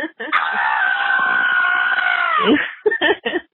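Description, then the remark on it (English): A man of about 27 screams on a voicemail recording in one long, sustained, strained cry that wavers and drops off at the end, followed by a few short vocal bursts, all sounding tinny and phone-filtered, almost like a rooster crow. “He just leaves the best voicemails. …, beat me if you want to reach me. Sometimes just screaming from start to finish.”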